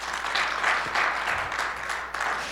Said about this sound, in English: Would you give her a round of applause, please?